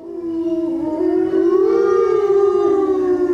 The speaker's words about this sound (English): The sound of wolves, a cry that's haunting, grievous.